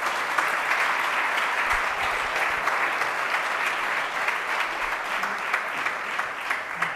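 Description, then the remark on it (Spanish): Sustained audience applause for a blog award nominee at an awards event, a dense steady wash of many hands clapping at even loudness for the full length, with no voices standing out. “Y hoy pues le vamos a dar un fuerte aplauso ya para que vaya calentando, porque está un poco nervioso.”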